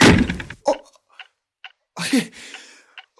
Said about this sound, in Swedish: Oj, vad rädd jag blev. Det var ju bara dörren som slog igen av tvärdraget.